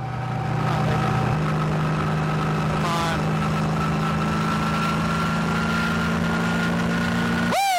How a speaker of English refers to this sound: Okay, I get it. No more Mr. Nice Guy. I put the pedal to the metal.